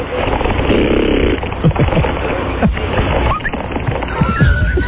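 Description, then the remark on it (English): Someone imitates a seagull by flapping their lips, making a loud, buzzy, sputtering trill in short bursts over a constant rough background noise. “That was my seagull call. Oh, you were like flapping your lips together?”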